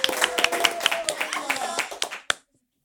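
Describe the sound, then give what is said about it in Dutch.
Audience applause for expert number two, many hands clapping in a dense, steady patter for about two seconds, then thinning to a few last claps before cutting to silence. “Geef een heel groot applaus aan expert nummer 2”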